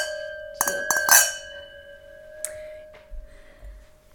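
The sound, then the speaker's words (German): Glasses clink together in a toast among people sitting together, a quick cluster of three or four bright taps, leaving a clear ringing tone that lingers and fades, followed by one softer clink and faint table noise. “Wir stoßen erstmal an auf ein Glas, ihr beiden.”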